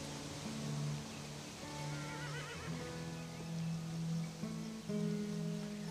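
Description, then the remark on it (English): Several wild horses neigh and whinny across an open outdoor space, their calls overlapping in long wavering cries, one breaking into a shaky trill, over a steady breezy background hiss. “My dad used to say that wild horses bring us good luck.”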